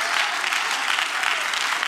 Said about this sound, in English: And when he comes trying to sit on your shoulder, you just start clapping your hands and said, devil, you get under my feet and off of my back. Start clapping your hands. Say, that's warfare against him.